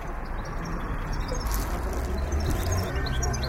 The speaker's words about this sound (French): C'est à vous, les oiseaux? À tous, celui-là. Celui-là, ouais. Et pourquoi vous les sortez comme ça, ces oiseaux? Parce que ça chante, hein.